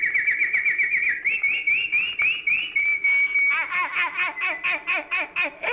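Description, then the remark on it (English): A canary sings alone in bright, high whistled phrases: a rapid trill, then a rising series of notes, a held pure whistle, and a quick run of repeated chirps. “So I changed her into a little canary bird.”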